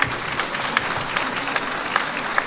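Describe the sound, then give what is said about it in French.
An audience applauds the costumed artists of the Vichy Pétille show steadily, a dense wash of many hands clapping with a few sharper, louder claps standing out, with no talking. “Et vous pouvez encore applaudir les artistes, c'est la préparation.”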